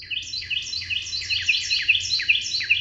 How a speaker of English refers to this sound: When a Carolina wren tips back its head and sings, something remarkable happens. A Carolina wren can sing so loudly that you almost have to shout to be heard over its song.